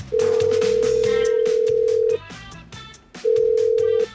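A phone call to a travel agency, agency Aktilen, rings out in two long, steady electronic tones, a pause between them, with busy background music playing underneath and nobody speaking.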